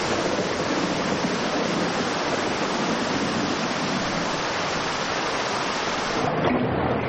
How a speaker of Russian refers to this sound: От макро к микро, ливень, как мы его слышим. А теперь крупнее, по траве хлещет дождь.